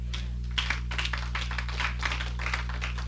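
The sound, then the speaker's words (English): An audience claps in a steady, dense patter of many hands, with no one speaking, over a constant low electrical hum. “We clap now.”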